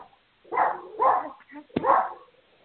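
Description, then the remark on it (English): A dog barks three times in a steady rhythm, sounding muffled, in the background over a phone line during a conference call, with a brief click between the second and third barks. “I hear some barking, but I can't hear you.”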